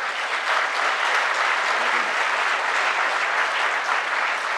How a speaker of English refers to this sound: I just want to pause for a second. I don't mind people clapping and cheering, but we don't want people blurting out accusations or any kind of attacks on the candidates.